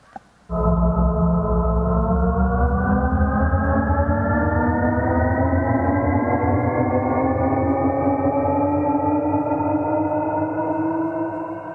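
A car engine accelerating: a loud, continuous droning hum whose pitch climbs smoothly and steadily for about eleven seconds, with no talking over it.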